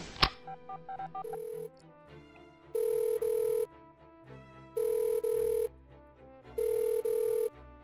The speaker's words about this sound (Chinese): 哎呀，这个学长怎么回事儿啊？平时明明对我很好的，关键时刻这么不靠谱，都这么久也不接电话。